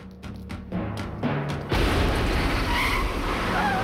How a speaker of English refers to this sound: The trash can explodes, making a yellow cab career into parked cars.